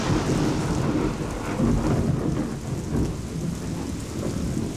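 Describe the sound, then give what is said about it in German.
Heavy rain pours down steadily in a thunderstorm in a forest, with deep rumbling thunder rolling underneath throughout. The downpour is loud, dense and continuous, and no voices are heard. “Es hat begonnen zu regnen. Es sieht nach einem fürchterlichen Gewitterschauer aus.”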